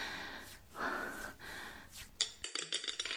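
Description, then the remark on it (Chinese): Soft breathing is followed by a pencil hitting a hard floor with a sharp click, then a quick string of lighter clattering bounces that fade as it settles. “啊，铅笔掉到地上了”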